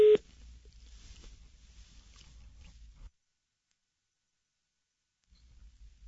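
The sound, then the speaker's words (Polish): A single short, loud telephone line beep at the very start as a radio call-in listener's line disconnects, followed by a few seconds of faint line hiss, then silence before low background noise returns. “Rozłączył nam się radiosłuchacz.”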